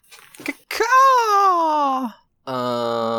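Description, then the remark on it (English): A loud, sustained screech with a strained, wailing quality that holds for over a second and slowly droops in pitch, then cuts off. After a brief pause, a lower, steady buzzing tone follows. “and here's a screech.”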